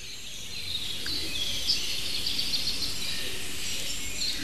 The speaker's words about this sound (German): Also, ihr habt viele Tauben gehört, die Hohltaube. Und die Ringeltaube. Natürlich auch eine Singdrossel und Rotkehlchen und sogar ein kleines zartes Sommergoldhähnchen war mittendrin. Kleiber hat kurz angeschlagen. Die ein oder andere Meise.